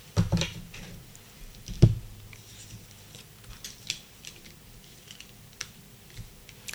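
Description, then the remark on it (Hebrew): Tarot cards being shuffled and three drawn for a Cancer horoscope reading: crisp papery flicks and light clicks scattered through the quiet, with one soft thump partway through and no voices. “הגענו למזל סרטן, שלושה קלפים.”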